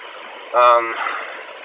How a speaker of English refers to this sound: What's going on with the bus? See, the air's leaking out. It's idling a lot louder than normal.